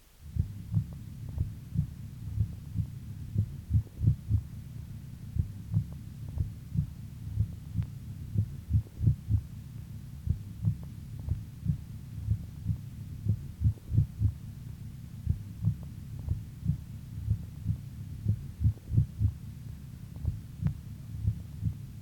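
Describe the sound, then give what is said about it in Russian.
Heartbeat heard through a stethoscope, a regular, steady, low thumping rhythm broken by single premature contractions (extrasystoles). Each is followed by a longer compensatory pause, and the first heart tone is louder at each extrasystole than in the cycles before it. A faint hum runs underneath; no talking. “При экстрасистолии на фоне правильного ритма слышны одиночные преждевременные сокращения сердца, после которых следует компенсаторная пауза.”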